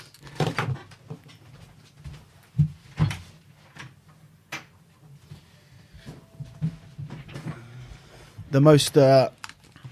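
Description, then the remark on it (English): A door is pushed shut, with a few short wooden knocks and thuds from handling it, then a louder clattering clunk near the end. “I'm just going to put the door quickly.”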